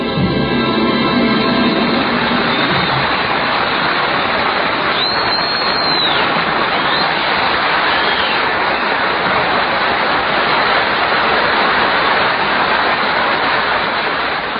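A sound effects man makes a steady, loud hiss of rain indoors in California, a dense rushing patter that stays even throughout, with faint traces of a fading tone at the very start.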